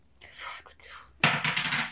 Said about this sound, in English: Hold on. Did you just blow on the fucking dice?